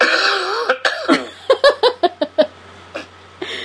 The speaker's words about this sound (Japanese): 咳してるね。